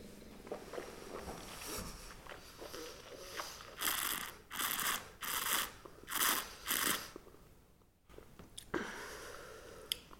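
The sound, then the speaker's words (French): Wet mouth sounds of wine being tasted a second time: a sip, a run of four or five hissing, gurgling slurps as a stream of air is drawn through the wine, soft chewing noises, then a swallow. “Cette fois-ci, après l'avoir mâché, après l'avoir laissé passer ce filet d'air, et après l'avoir avalé, j'ai expiré l'air par le nez.”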